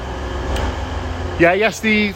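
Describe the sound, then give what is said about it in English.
A steady low rumble and hiss of a very busy train carriage on a train to Scunthorpe runs throughout, with voices of passengers chattering over it in the second half. “So sorry about the sort of the background noise of a very busy, unbelievably busy train to Scunthorpe.”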